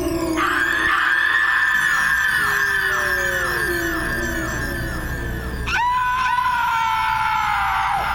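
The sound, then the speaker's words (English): Eerie, sustained screaming wails in several overlapping voices, rising and falling in pitch, with a sharp piercing outburst partway through before the drawn-out cries continue without speech. “screams were driving me crazy.”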